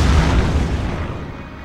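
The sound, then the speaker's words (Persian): Something explodes on a road: a heavy explosion booms out with a deep, rumbling low end, then slowly decays into a fading roar over under two seconds. No voices are present. “یه چیزی تو جاده منفجر میشه.”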